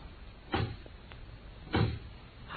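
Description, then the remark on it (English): A door opens with a short, muffled knock and rustle as a man enters, then a second similar thump about a second later as it swings shut. Both sounds stand alone, with no talking. “There's someone outside the door. I can see his shadow on the glass.”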